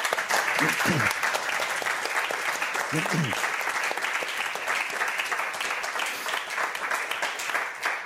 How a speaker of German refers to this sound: Und dafür einen heftigen Applaus, bitte.